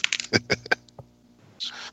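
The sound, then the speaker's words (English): A small metal wedding ring drops onto a computer keyboard, bouncing in a quick series of sharp, ringing clinks and clicks, followed by a brief soft rustle. “Yeah, yeah, and then I dropped my wedding ring on my keyboard, and then we made this noise.”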